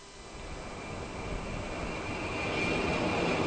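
A jet aircraft roars overhead, a broad, steady rumble with a high whine that grows gradually louder and fuller over the few seconds, with no voices.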